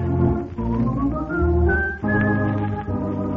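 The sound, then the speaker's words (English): Someone whistles a bright, rising tune over a full instrumental backing, the thin, high melody riding clearly on top of the music without any talking. “I love to whistle, 'cause it makes me merry, makes me feel so merry.”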